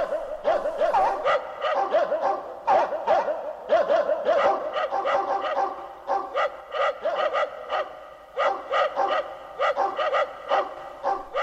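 Several dogs bark in a rapid, overlapping stream of sharp yelps and woofs as they come closer, fairly loud and steady throughout, with no one speaking.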